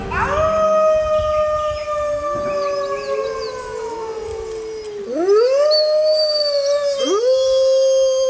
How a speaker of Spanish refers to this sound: Con esos aullidos de pronto creíste que estabas en un podcast de terror. Si hemos tenido la oportunidad de escuchar aullidos de lobo,